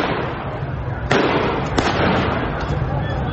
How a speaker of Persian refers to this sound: شلیک مستقیم به معترضان بی آبی.